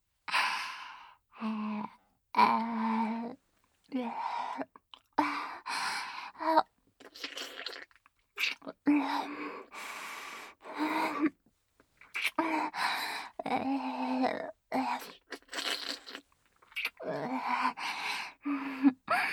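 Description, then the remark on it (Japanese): Heavy, voiced panting of an excited teacher repeats in uneven bursts for the whole stretch, breathy sighs and gasps with short pauses between them and no words spoken, moderately loud. “先生の息も荒くなってるじゃん。はぁはぁって思いっきり興奮しちゃってるね。”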